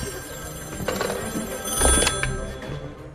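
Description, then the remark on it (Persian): A telephone rings with repeated electronic trills, moderately loud, over a steady background hum with no one talking. “چرا اینقدر تلفن میزنم؟”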